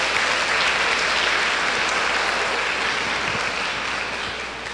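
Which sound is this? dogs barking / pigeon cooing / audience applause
audience applause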